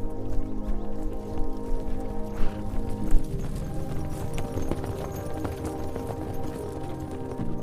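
Hooves of several horses ridden toward Carcassonne out of the morning mist clatter in a steady, overlapping clip-clop, a dense rumbling trot over a low sustained hum, with no voices.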